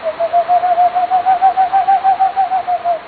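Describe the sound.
A person imitates boreal and eastern screech owl calls: one steady, even-pitched trill of rapid hooting pulses, about five per second, clear, running unbroken for three seconds.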